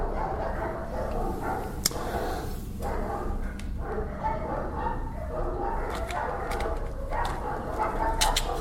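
dogs barking

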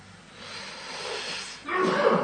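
sneeze

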